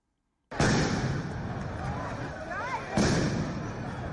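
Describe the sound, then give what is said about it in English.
Two loud, sharp blasts of police stun grenades, about two and a half seconds apart, boom out over a noisy protest crowd in Tel Aviv, with shouting voices and a roar of street commotion continuing between and after them. “Some protesters blocked roads and threw rocks and bottles at police, who responded with stun grenades, pepper spray, and water cannon.”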